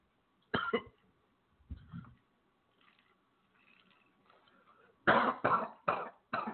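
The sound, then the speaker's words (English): A speaker recording at a computer coughs: one cough bursts out, then a short throaty sound, a quiet pause, and a run of four harsh, loud coughs in quick succession. There is no talking. “Need to have a cough button on this computer.”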